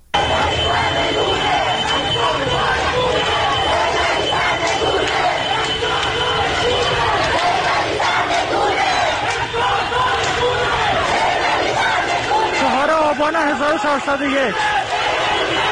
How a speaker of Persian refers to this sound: صدای یکی از اعتراض‌ها رو در محله شریعتی تهران میتونیم بشنویم.